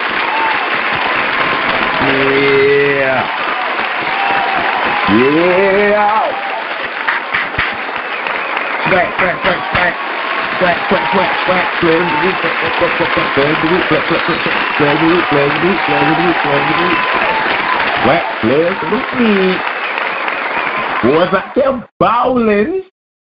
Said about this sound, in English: From here at the Fix Sports Podcast, to your HBCU, to you personally, we want to make sure that we give you a round of applause. So stand on up and get on your feet. Get them boys that round of applause that they need.